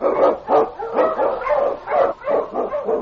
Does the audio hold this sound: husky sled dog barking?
yes